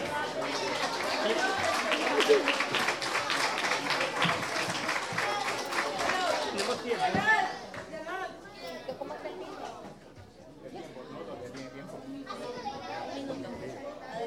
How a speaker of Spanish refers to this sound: Un aplauso